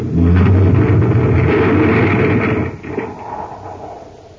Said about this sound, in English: We're sealed in. Oh, brace yourself. Our tunnel car is going to crash right into the debris.